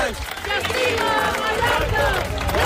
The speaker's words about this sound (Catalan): El so dels crits de les 10.000 persones que avui han participat en aquesta cadena humana en què diverses organitzacions ecologistes de Mallorca han fet com a rebuig a l'especulació immobiliària que està degradant, diuen, els espais naturals